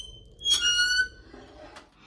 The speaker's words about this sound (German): Dieses Geräusch ist krass von dem Hebel, wenn ich hier den Zug ein bisschen zumache.